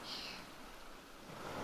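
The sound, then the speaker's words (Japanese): Ocean waves wash onto the shore in a steady, soft hiss that swells slightly toward the end, with no voices. “波の音を聞きながら、こうしてご主人にギューってくっついてるだけで幸せです。”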